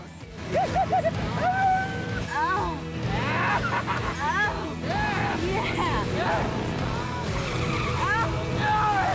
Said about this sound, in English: The biker swerves to avoid a road sign, but then comes crashing off his bike.